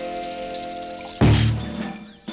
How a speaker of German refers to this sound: Es ist Zeit, die Kanone abzufeuern. Dafür zieht er sie mit einem Schlüssel auf.